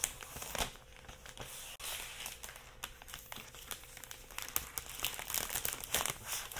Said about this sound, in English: I'm going to pull the tab on this part on the laptop. Sounds like it's ripping, but it's actually what it's supposed to do.